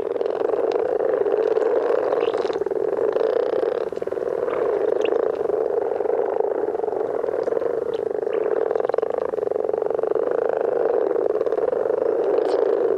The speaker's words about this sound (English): We have another example of one of your recording. I think it's of some frogs.